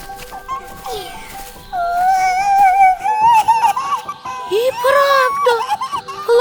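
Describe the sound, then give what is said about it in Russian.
High, wavering whimpers rise and fall in a continuous plaintive cry, moderately loud. Brief soft sounds come first, then the crying grows steadier and more insistent toward the end. “Мне кажется, кто-то плачет.”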